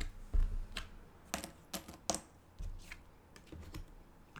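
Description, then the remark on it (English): A die clatters across a hard tabletop during a game in a quick, irregular series of sharp clicks and taps, fairly loud, then settles, with no voices. “Should probably, at the beginning of this podcast episode, have a warning for people listening on headphones. Oh, you think it's going to be long? Every time the die rolls.”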